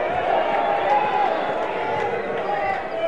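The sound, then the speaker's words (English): A large home crowd at a Frisco Rough Riders baseball game voices its displeasure in a steady, sustained wash of booing and groaning that holds at an even, fairly loud level for about three seconds. “Home crowd didn't like it.”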